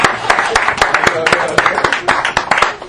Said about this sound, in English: Please, I want to clap for her.